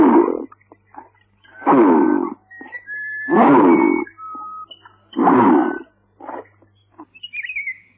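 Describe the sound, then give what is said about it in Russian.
Redtail catfish (pirarara) mumbling in the Amazon as it rises to the water surface: four loud, rough, croaking grunts repeat at a steady pace over a constant low hum, with faint short squeaks and clicks in between. “В Амазонии не могла родиться поговорка «нем как рыба», когда усатая пирарара поднимается к поверхности воды, ее бормотание слышно невооруженным ухом.”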